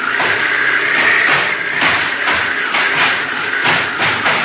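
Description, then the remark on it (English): A car rides along railroad ties: a steady rumbling vehicle noise broken by a rapid, regular series of thumping bumps as the tires jolt over the evenly spaced ties, continuing throughout with no voices. “We're going to ride on the railroad ties.”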